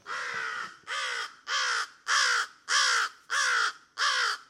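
A crow caws seven times in a steady, evenly spaced series, each call a loud, harsh, raspy note of similar length, with no other sounds around it.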